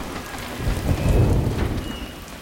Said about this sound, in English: Angus hurries outside and runs through the pouring rain to the workshop